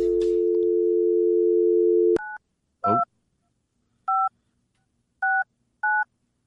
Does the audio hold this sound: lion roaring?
no